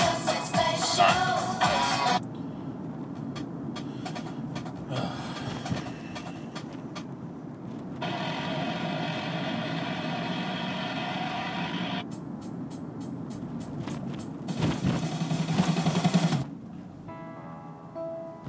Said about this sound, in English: Get your fucking zip car in here. Merge it in.